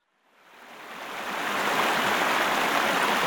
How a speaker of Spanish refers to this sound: ¡Oh, no! ¡Un río!